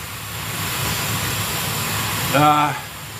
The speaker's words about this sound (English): Oh fuck, it's nice having a hot shower. You know? Really is.